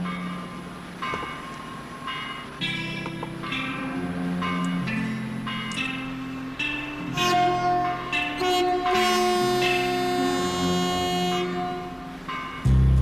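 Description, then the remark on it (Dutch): The horn of the ship Nootje Jacoba sounds in long, sustained blasts with rich layered harmonics, its deep tones shifting pitch over about thirteen seconds, loud and steady throughout before cutting off abruptly. “Nou, dat was het scheepshoorn van de Nootje Jacoba.”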